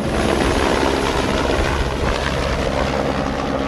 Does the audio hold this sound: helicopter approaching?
yes